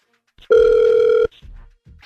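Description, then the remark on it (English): A single steady electronic ringback tone of an outgoing call placed from the radio station Hot 96.9, a loud sustained beep lasting under a second, with faint muffled sounds before and after. “I hope he answers the phone.”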